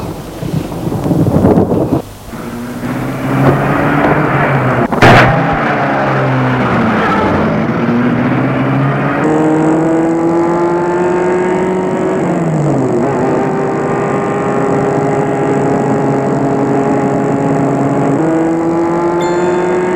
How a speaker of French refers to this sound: Voiture. Il la met en route.